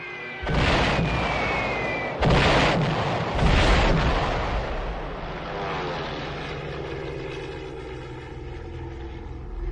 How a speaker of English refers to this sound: the Stukas, dive bombers equipped with sirens. Resisting the intense pressure of the descent, their highly trained pilots release their bombs at the last minute with lethal precision.